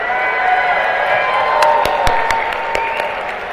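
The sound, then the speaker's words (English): A studio audience at a cooking demonstration cheers and whoops loudly and steadily throughout, a dense wall of crowd voices with scattered sharp claps and shouts punching through in the second half. “And cheer him on! Cheer him on!”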